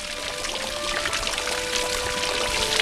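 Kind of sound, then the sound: nature, water bubbling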